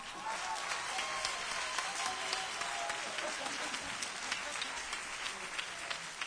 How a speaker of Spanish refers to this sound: Como veníamos diciendo, aplausos